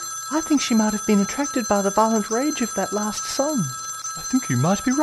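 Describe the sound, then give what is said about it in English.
A man's phone rings steadily underneath with his wife calling, its bright electronic tone holding throughout while two people talk over it in conversational voices. “Hey, that's my phone.”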